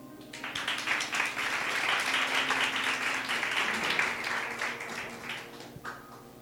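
A crowd breaks into applause, a steady dense patter of many hands clapping at moderate volume for about five seconds before it thins out and fades.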